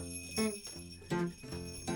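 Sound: jingling bells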